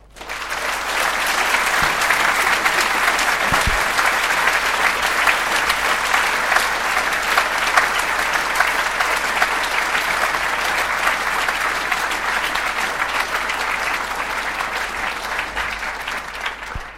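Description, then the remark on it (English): Sustained applause from a large audience at the end of a lecture on evolution, before questions, a dense steady patter of many hands clapping at an even loudness for the whole stretch, fading out slightly at the end. “After that satisfactory round of applause, there's now time for questions.”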